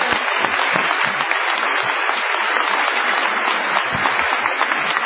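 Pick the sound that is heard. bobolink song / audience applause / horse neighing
audience applause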